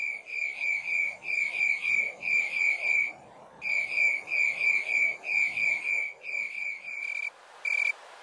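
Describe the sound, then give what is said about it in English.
Slowed-down chirps of the tree cricket Acanthus rileyi, a Western species, each chirp a buzzy train of 11 rapid pulses, repeating in a steady rhythm with a brief pause midway, loud with no voices. “And when you slow those chirps down, each individual chirp is actually 11 separate pulses, so that you hear 2, 3, 3, 3.”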